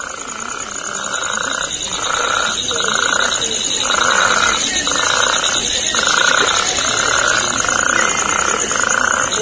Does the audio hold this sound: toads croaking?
yes